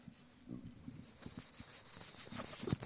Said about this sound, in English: Do you hear that? Yeah. He's sniffing the microphone. Oh, he's insane. We're watching this dog, okay? Is it outside? No, it's a pug.